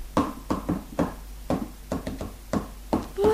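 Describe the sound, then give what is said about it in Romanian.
A series of sharp knocks tapped out as a telegraph-style code message in an uneven rhythm, with short and longer gaps between them, fairly clear, with no talking. “Nu înveți și tu ca mine așa să ciocănești? Să-mi văd telegrafia?”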